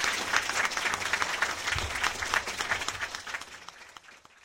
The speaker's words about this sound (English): Now, please, a great big round of applause for our candidates debating the issue.